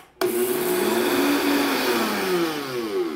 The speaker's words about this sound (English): These sesame seeds would normally be ground with a shirabashi, but I don't have one, so we are gonna use my blender. All right, 2 tablespoons of sesame seeds into the blender.